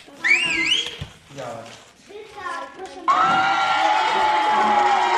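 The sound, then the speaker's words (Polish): A toy robot's sliding electronic whistle rises and falls, voices murmur briefly, then a steady burst of recorded cheering with a sustained whistle tone and clapping plays loudly until the end; the toy fans, built by girls, clap and whistle when a paper ball is thrown. “Kiedy rzucamy na przykład piłkę z papieru, to na klaszczą i gwizdą. Czyli prawdziwi kibice.”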